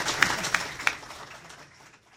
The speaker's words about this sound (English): Hey, how about a big round of applause for our candidate? Hey, you did a good job, too.